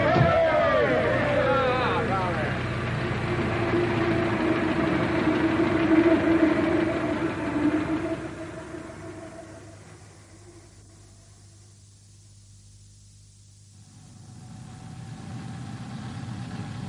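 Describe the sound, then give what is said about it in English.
A car engine rumbles and revs with a steady drone, then fades away as the vehicle drives off, leaving a quieter stretch before a low hum rises again. “Ah, they're off.”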